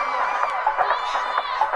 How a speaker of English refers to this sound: Everybody gonna scream now.